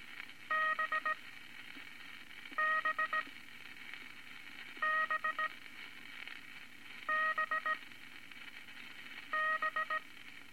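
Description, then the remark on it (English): International Morse code characters tapped out as quick groups of short, high electronic beeps, five bursts spaced evenly apart over a steady background hiss, with no talking. “second unit of International Morse code consists of 7 letters.”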